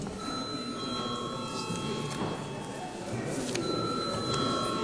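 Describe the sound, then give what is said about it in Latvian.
A parliamentary session bell, rung at the chair's request before deputies' attendance is registered, rings steadily for several seconds, a sustained, bright electric tone that briefly drops out midway, over a low murmur. “Paldies, lūdzu zvanu.”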